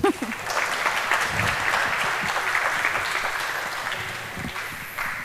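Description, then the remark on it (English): An audience welcoming a speaker to a talk on cryptographic protocols, near midnight, claps steadily for about five seconds: a dense, even wash of many hands at a fairly loud, constant level, with no voices standing out. “Give a warm applause, please.”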